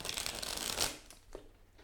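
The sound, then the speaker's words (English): A deck of cards is riffled, a dense crackling flutter of cards that peaks and ends abruptly, followed by a couple of softer taps and rustles. “We did some shuffles while Kevin and I were discussing business ideas off mic while you were listening to the song.”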